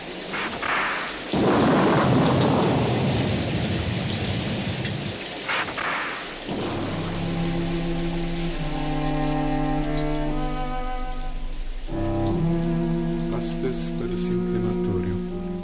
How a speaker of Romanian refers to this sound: Seara, furtună. Cărările pline de noroi și pietre. Vreme oribilă.